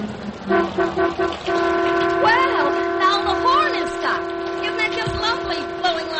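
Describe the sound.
A car horn sounds a few short beeps, then blares in one long, unbroken steady tone while people talk over it, as a car pulls up in front of the Casino del Toro in Mexico City in the rain.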